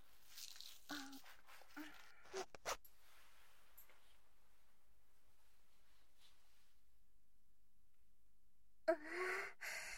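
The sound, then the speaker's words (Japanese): A zipper is pulled down with the mouth in a few short, rasping bursts during the first three seconds. Mostly quiet afterward, with a soft breathy rustle near the end. “ジッパー口で下ろすね。”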